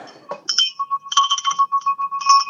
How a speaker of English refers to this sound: He was pretty happy about the decision. We're ringing bells. You want to hear me ring the bell?